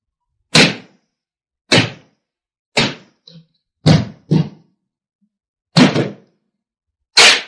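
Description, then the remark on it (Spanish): A house door is being battered down on a doctor's order: about seven heavy, booming thuds land at uneven intervals of roughly a second, each a loud wooden crash with a short rattling tail, and no voices. “Vamos, derriben la puerta.”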